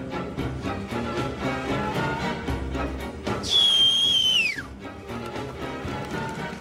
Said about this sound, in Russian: Человек с обрезом свистит, и на его свист выходят вооруженные люди.